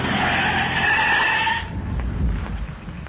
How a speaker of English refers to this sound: And I'm going to stop going, right in that narrow place just ahead of us. Hang on while I skid this car straight across the road. But that will block the road.